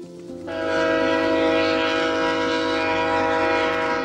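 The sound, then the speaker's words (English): Via Rail's passenger train The Ocean blares its horn in a long, steady, loud chord over the rumble of the passing train as it winds through the Tantramar Marshes at Sackville, New Brunswick, with no voices present. “in Sackville, New Brunswick, competing with the sound of Via Rail's The Ocean as it winds its way through the Tantramar Marshes.”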